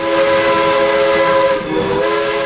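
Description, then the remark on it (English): A loud, sustained steam train whistle blows a steady multi-toned chord over a bed of hissing steam, dipping briefly before sounding again, with no voices present. “You'll be able to recognise this on modern trains these days, but many of us might not remember the time of steam trains, which sounded like this.”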